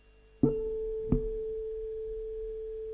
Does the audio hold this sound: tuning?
yes